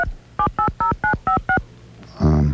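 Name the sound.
telephone keypad dialing tones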